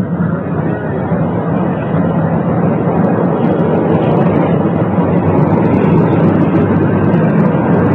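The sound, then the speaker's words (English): A loud, steady mechanical roar of an Army helicopter's engine and rotors starting as it prepares to take off from Andrews Air Force Base outside Washington for a short flight to the White House south lawn, a dense low rumble that holds constant throughout with no voices. “Now the Army helicopter preparing to take off. The rotors beginning.”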